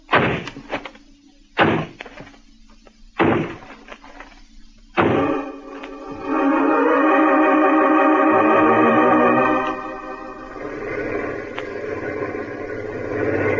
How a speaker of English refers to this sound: This is the place. It's a dance hall and tavern. They won't open up for us. All right, men. Smash down that door.